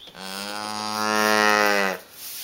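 A dairy cow on a dairy farm in Markelo, the Netherlands, gives one long, loud moo lasting nearly two seconds, a steady low-pitched, harmonic-rich bellow that swells slightly in the middle before cutting off, with no talking.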